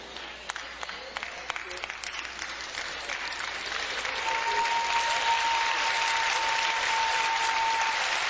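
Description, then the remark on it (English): An audience claps after a reading of 2 Corinthians 6:14–15, starting as scattered, sparse hand claps and swelling after a few seconds into steady, fuller applause that continues to the end. “Did y'all see how long it took y'all to clap on that one?”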